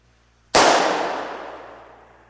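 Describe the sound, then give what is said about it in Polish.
A balloon, blown up until it reaches its limit, pops with one sudden, sharp bang that fills the whole range at once, then fades away over about a second and a half. No one speaks. “Za każdym razem, kiedy wypychamy trudne emocje, kiedy mówimy nie, a w środku czujemy ból, zranienie, frustrację, to jest tak, jakbyśmy dmuchali ten balonik do momentu, aż on osiągnie granicę swojej możliwości. A co się stanie później? Zobaczcie.”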